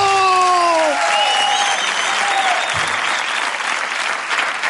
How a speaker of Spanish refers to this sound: Reciban con un fuerte aplauso a Tomás García. ¡No me entero del aplauso!